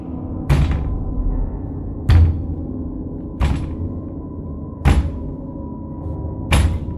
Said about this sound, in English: The sound causing your heart to race as the knock on the door comes again.